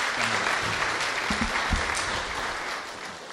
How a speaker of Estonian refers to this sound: nii et anname veel ühe sooja aplausi siia.